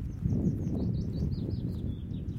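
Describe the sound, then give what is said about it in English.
A string of short, high seagull calls repeats quickly, fairly faint, over a steady low rumble of wind or surf, at sand dunes. No one speaks. “And no, well, little seagull sounds.”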